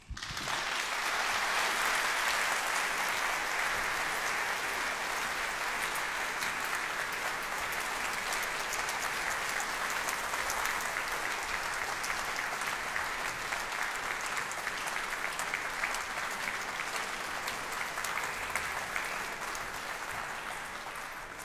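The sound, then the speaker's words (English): Sustained applause from a large audience at Cadogan Hall for Sir Harrison Birtwistle and for members of the London Sinfonietta and the BBC Singers returning to the platform, a dense, steady wash of clapping that stays loud and even for about twenty seconds with no voices over it. “That applause both for Sir Harrison Birtwistle here at Cadogan Hall and for members of the London Sinfonietta and the BBC Singers who are returning to the platform here and who in a moment will tune.”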